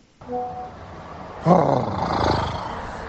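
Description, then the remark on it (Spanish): A loud, rough snorting huff of breath, the final snort of a councillor of Las Palmas de Gran Canaria, bursts in after a second and a half of faint, steady hum, then trails off over about a second and a half with a raspy, growl-like edge. “Y vamos a escuchar el resoplido final.”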